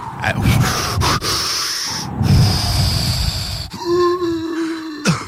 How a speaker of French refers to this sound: Ça, c'est l'ouragan. L'ouragan, c'est Nicole son nom. Ouais, on a eu sa queue.